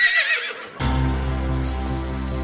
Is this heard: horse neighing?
yes